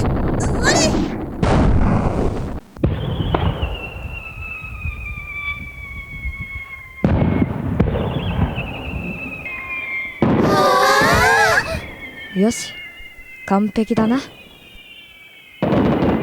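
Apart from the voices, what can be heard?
fireworks bursting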